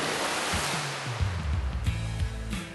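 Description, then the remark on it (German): Steady splashing and churning water as someone jumps into cold water through a large hole in the ice and catches one fish after another, a dense, rushing hiss, fairly loud, with no one speaking and a faint low hum running underneath. “Und Leonie springt in das kalte Wasser und fängt einen Fisch nach dem anderen.”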